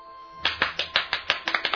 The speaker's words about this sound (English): If you believe, clap your hands.